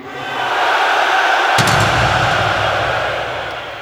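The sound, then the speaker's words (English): The men in an audience scream and roar together on cue, a sustained wall of voices that swells at the start, holds steady, and thickens with deeper tones partway through before easing off. “And now all the guys, scream.”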